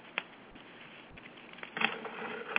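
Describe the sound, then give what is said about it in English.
A deck of cards being shuffled before cards are drawn for someone, a soft papery riffle and patter with a few sharper snaps, building toward the end. No one speaks. “I'm going to give him a good shuffle, and I'll let you know what I get.”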